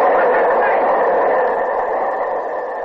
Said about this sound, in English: Train coming. Watch it, Captain. Downtown Express.